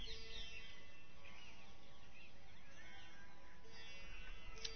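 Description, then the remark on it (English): Birds chirp and twitter over a steady outdoor hum, their calls scattered and overlapping throughout, fairly faint but continuous. “The birds,”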